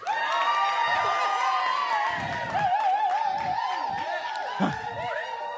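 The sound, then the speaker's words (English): An audience, asked to shout in celebration, erupts on cue in sustained, loud celebratory shouting and cheering, many voices whooping and yelling together at a steady high intensity for several seconds. “All right, everybody over here, from this side to here, you're gonna shout. Celebration.”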